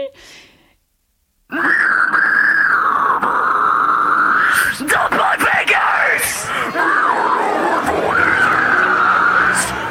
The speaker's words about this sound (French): Tu as des cris très, très aigus ou alors tu as des cris qu'on appelle les pig squeals parce que ça ressemble à des cris de cochon, en fait.